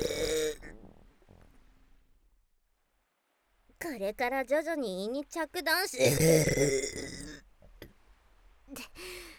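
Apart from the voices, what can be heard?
loud burp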